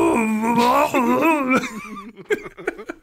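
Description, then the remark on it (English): A person imitates the whimpering a dog makes when someone says her name and talks to her, with a high, wavering whine that rises and falls for a couple of seconds, then breaks into short, choppy bursts of laughter. “I love this podcast should just be us trying to recreate dog noises.”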